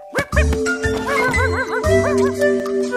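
Excited dog yips and short barks ring out in a quick, uneven series, with high whining tones mixed in and a faint jingling underneath.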